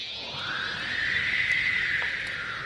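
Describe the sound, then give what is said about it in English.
A horse named Chode, outside, whinnies in one long, drawn-out call that holds steady for about three seconds. It is fairly loud, with no talking over it. “My other horse, Chode, is hanging out outside.”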